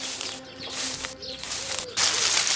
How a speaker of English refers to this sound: There are the very twittery birds. And the farm noises.